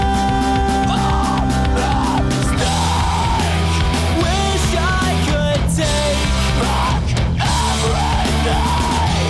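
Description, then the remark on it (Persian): A loud, dense emo rock song with distorted guitars and pounding drums, topped by harsh screamed and yelled vocals that rise in strained, repeated bursts throughout. “و البته یکی دیگه از این روش ها هم ادای آواز این موسیقی به شکل جیغ و داد یا فریاد بود، چیزی باز هم شبیه آواز همین آهنگی که حالا و زیر صدای من میشنوید.”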